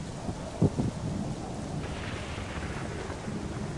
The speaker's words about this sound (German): Es ist windig, ja. Es ist windig, es ist kalt, es regnet. Es donnert.